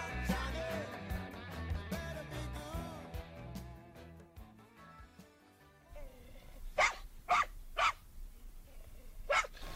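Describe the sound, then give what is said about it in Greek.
Music plays with rich harmonic tones, then gives way to a series of sharp, loud dog barks that are part of the song itself, about five in a loose rhythm, prominent over a quieter musical backdrop. “Τι σκυλιά είναι αυτά? Είναι του τραγουδιού.”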